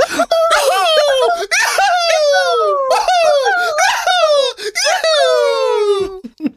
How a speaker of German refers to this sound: Jetzt aber zum Schluss nochmal ein …-Schrei. Komm, nochmal alle aufwecken.